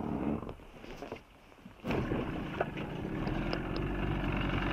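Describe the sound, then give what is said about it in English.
A boat engine being started to pick up a group of divers rumbles steadily, its noise swelling up sharply partway through and then holding a loud, continuous drone with some faint clanks over it. “We're going to pick them up now and get the engine started.”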